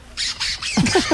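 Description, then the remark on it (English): Steve Martin imitates a car engine starting entirely with his own voice, with no artificial gimmicks, in a sound effects bit: three breathy, hissing cranks, then a quick run of short, squeaky, pitch-bending vocal revs, moderately loud and with no other talk. “Then I went down and started up the car.”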